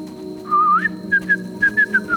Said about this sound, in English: Well, whistle a happy tune, ….